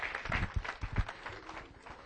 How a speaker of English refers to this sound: Let's get the Lord a great hand clap of praise.